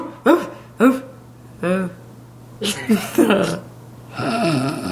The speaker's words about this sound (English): Your dog barks like she's having an orgasm.